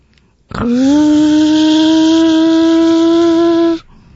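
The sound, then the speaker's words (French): A voice imitates a three-wheeled lawn mower with one loud, steady buzzing drone that holds an even mid pitch for about three seconds, then cuts off abruptly. “C'était une tondeuse, À gazon.”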